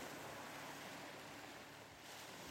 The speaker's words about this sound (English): The cove's golden sand stretches before you, so fine and soft. Warmed by the sun and caressed by gentle waves that lap rhythmically against the shore.